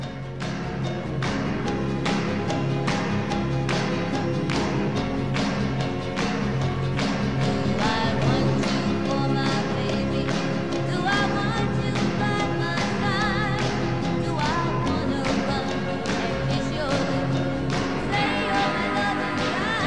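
A 1960s girl-group pop rock song plays loud and full, with a steady, driving drum beat under dense layered instruments and what sounds like sung vocals, continuous throughout.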